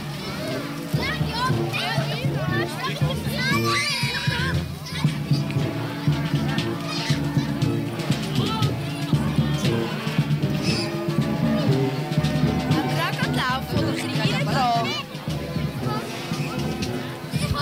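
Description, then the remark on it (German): A crowd of children and adults sets off on the Rabenlichtli-Umzug 88 lantern procession in Riesbach, heading toward the Botanical Garden, the children carrying their Rabenlichtli lanterns. A steady, dense babble of overlapping high-pitched children's voices and chatter stays loud throughout. “Geht es jetzt los in Richtung Botanischen Garten und die Erwachsenen und vor allen Dingen die vielen Kinder mit ihren Rabenlichtli setzen sich hintendran in Bewegung.”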